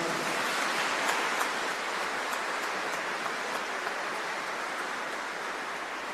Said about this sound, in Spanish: Vamos a brindarle un fuerte aplauso a Nuestra Señora de las Lajas.